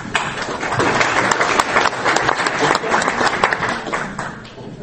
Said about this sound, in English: These conferences are great where you get applause at the start. I normally talk at science conferences and you only get applause at the end if you've done all right.